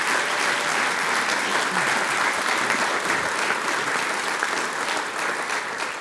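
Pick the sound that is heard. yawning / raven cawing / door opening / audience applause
audience applause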